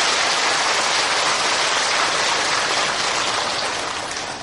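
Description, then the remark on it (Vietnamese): Dense, steady applause from an audience at a Buddhist Dharma talk fills the whole stretch, a loud crackling wash of many hands clapping together that fades slightly at the end, with no voices heard. “Cho nên một lần nữa lại phải cho một tràng mưa hoa nữa.”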